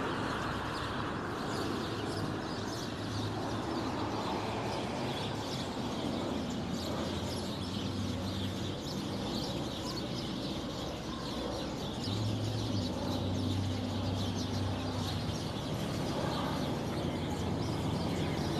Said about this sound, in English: Ooh, a whole bunch of hummingbirds.